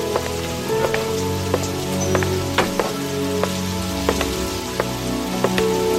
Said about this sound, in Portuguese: Então ele saiu no meio daquela chuva.